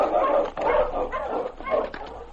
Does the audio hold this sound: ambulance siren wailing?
no